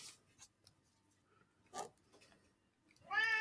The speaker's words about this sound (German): Miau. Miau.